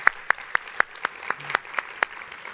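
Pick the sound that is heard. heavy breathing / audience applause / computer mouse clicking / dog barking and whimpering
audience applause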